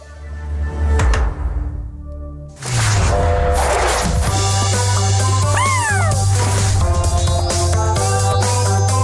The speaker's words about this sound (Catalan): I ara haureu potser identificat aquí una sintonia enmig de tot plegat, és la de Netflix, perquè aquest és el so del primer videojoc que Netflix ha fet íntegrament a Barcelona, Mar del Mal.